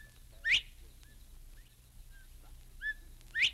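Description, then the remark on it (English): A bobwhite quail, a game bird of the Florida wilderness, whistles clearly, with sharp rising calls near the start and again at the end and softer short notes between, over a low steady hum. “That was the whistle of a bobwhite quail.”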